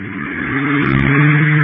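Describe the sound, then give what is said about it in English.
A heavy truck engine rumbles, its steady harmonic drone rising slightly in pitch and loudness as the truck drives past, with no voices present. “Let that truck go by.”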